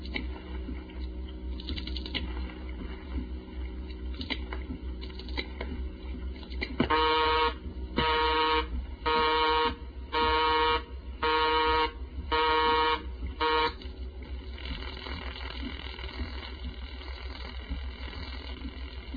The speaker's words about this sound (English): This next call, we're going to dial the entire 7 digits on the CX100, and we'll end up with a busy signal. And it takes a while for this busy signal to reset and release the line after we hang up. Listen.